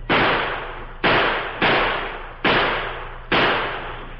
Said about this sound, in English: The outlaw Indians halted and returned the gunfire that came from the little house at the edge of the Pawnee Reservation.